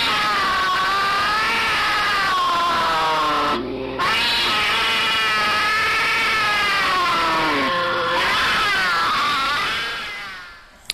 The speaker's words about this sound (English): if that sounds anything like what you heard, then yes, a possibility that one of these cougar sightings has actually turned into a calling